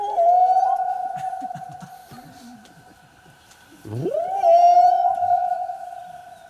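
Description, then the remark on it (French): A person standing on a cape imitates a whale call to call whales, with a long, steady moaning tone, then dips low in a swooping groan before rising back into another sustained, loud wail. No words are spoken. “Alors, je me mets sur un cap, et puis j'appelle les baleines.”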